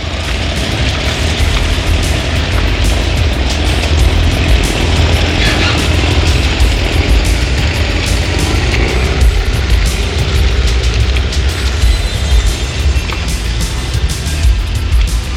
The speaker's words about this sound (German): Der Wal begleitete das Motorboot hinaus aufs Meer.